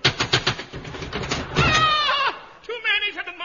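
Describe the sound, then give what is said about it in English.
A quick run of sharp knocks on a cottage door raps out for over a second, then a wavering, bleat-like vocal sound follows and a voice begins speaking. “Look, there's a cottage 800 miles away. I'll knock.”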